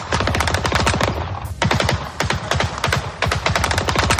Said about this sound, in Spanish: hasta disparos en el aeropuerto contra el avión que estaba aterrizando para llevarse al hijo del Chapo